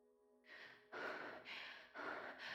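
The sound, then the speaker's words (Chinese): Heavy, rapid panting breaths of a person slumped over a table, loud, coming in a steady rhythm of about four or five gasping inhales and exhales with no talking. “我上半身软趴在桌上，呼呼的喘气。”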